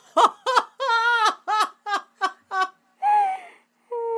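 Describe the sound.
A loud voice imitates the squawky cartoon duck Donald Duck, sputtering a rapid run of short nasal, raspy bursts followed by a couple of longer drawn-out quacking sounds, with no ordinary speech.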